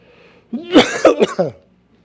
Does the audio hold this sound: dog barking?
no